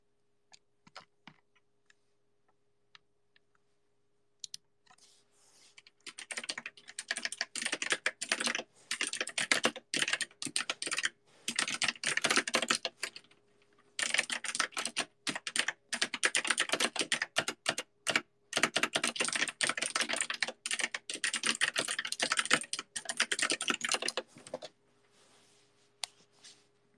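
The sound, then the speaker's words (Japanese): Rapid typing on a computer keyboard, dense bursts of key clicks running for about twenty seconds with a couple of brief pauses, no voices. “みんなタイピング音好き？”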